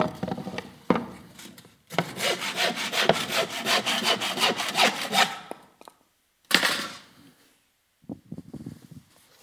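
A hand saw rasps through wood in a quick, steady run of back-and-forth strokes lasting a few seconds. A final scraping cut and some quieter knocks follow after a pause.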